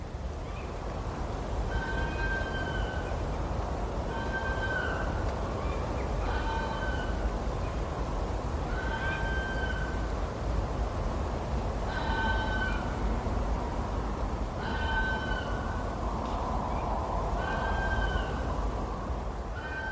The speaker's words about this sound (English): Urban foxes are doing fairly well in our neighbourhood, and on winter nights, the vixens sometimes announce their visits from the path at the end of the garden.